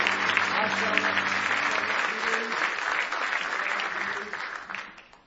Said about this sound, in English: Are you glad to be a Christian tonight? Somebody say praise the Lord. Give Jesus a big hand clap of praise tonight if you love Him with all your heart.